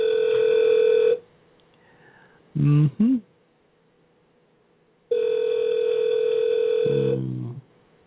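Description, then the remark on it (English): A phone rings from an incoming call with loud, steady electronic tones: a ring burst, a short chirping blip, then after a pause a second longer ring that ends in a descending warble. “And I do apologize for that ringing sound. Apparently I have a call coming in.”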